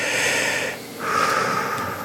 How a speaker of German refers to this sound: Ich weiß, nach diesem Schreck mit dem, Sie müssten was abnehmen, musste ich erstmal ganz tief durchatmen.